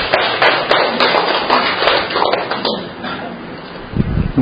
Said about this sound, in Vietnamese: Rồi, chúng ta cho một tràng pháo tay thưa anh chị em.